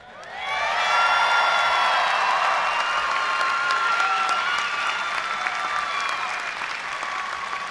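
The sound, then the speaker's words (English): A large audience at TCU breaks into sustained, loud applause that rises quickly and holds steady, with scattered cheers and whoops mixed into the dense clapping, after it is declared that TCU's Word of the Year is 'undefeated'. “You're applauding exactly where I thought you should.”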